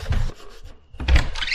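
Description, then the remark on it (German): A door is eased open carefully with a drawn-out creaking, scraping sound in two bursts in quick succession separated by a brief pause, moderately loud, with no voices. “Mach die Tür vorsichtig auf.”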